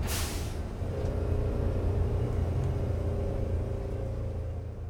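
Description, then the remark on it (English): A bus engine rumbles steadily for several seconds, opening with a brief sharp hiss like an air brake release, then a continuous deep idling drone with no voices. “Get off the bus!”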